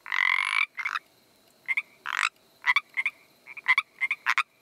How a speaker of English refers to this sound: What about the Pacific tree frog?